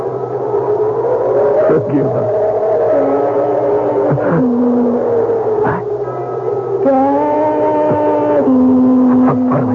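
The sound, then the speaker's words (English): A car engine runs steadily, its droning hum rising and falling in pitch as it revs, with a few brief knocks and clicks over the continuous rumble. “One second, I'll open the car door for you.”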